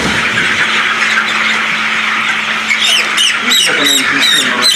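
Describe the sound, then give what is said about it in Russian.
A dense, loud chorus of young broiler chickens chirping inside a poultry house at a farm in Kuzbass: countless overlapping high peeps over a steady low mechanical hum, with a few sharper chirps near the end. “Уже через пару недель эти бройлеры наберут 2-килограммовый вес и уйдут потребителю.”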